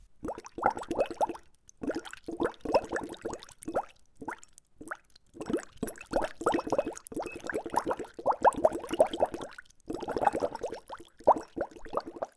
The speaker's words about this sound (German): Für das erste Geräusch braucht ihr ein Glas mit Wasser und einen Strohhalm. Taucht man den Strohhalm nun ins Wasser und pustet oben hinein, dann blubbert es wie in unserer Hexenküche.